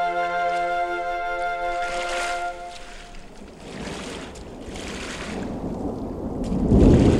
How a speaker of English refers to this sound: Sounds like a storm coming.